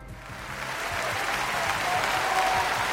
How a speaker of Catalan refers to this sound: Clar que sí, aquest aplaudiment per aquesta iniciativa solidària